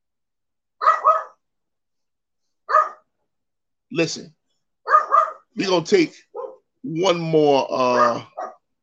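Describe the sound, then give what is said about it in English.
A small dog barks in a string of short, sharp yaps spaced irregularly, ending in a longer, higher whining stretch. There are low growly bits between barks, and a person briefly speaks. “we're gonna take one more commercial break while I deal with this little dog issue, and we're gonna make things happen, all right?”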